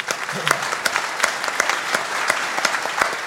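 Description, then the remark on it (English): An audience claps steadily as a thank you to sommeliers and vintners, dense overlapping hand claps forming a continuous wash of applause at moderate loudness with no voices rising above it. “Not too loud of applause, because they may have a headache.”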